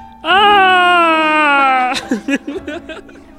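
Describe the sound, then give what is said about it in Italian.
A voice imitates the pizza man character's scream of surprise: one loud, sustained, high-pitched cry lasting over a second and sliding slightly downward, followed by a few short, choppy vocal bursts like chuckles. “Allora, l'uomo pizza ovviamente emette un urlo di sorpresa.”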